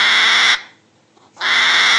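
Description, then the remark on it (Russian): A hedgehog in Altai Krai, Russia, screams when touched, in two loud, harsh, high-pitched bursts, each about half a second long, with a brief near-silent pause between them. No one speaks. “А вот так ежи кричат, когда их трогают.”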